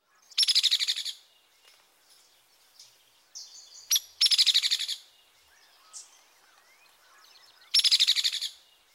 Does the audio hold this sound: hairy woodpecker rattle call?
yes